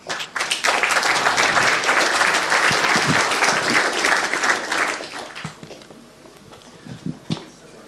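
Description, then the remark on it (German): Loud, dense audience applause welcoming the next presenter to the front for a talk about the Minibox. It stays steady for about five seconds, then thins into a few scattered claps and fades out. “Herzlichen Applaus.”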